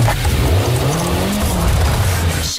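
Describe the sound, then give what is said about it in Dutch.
A car accelerates hard from a standstill during a driving skills test, its engine note climbing steadily in pitch with a rough, loud roar and a hint of tire noise, ending in a sharp thump. “Een klein beetje hard weg.”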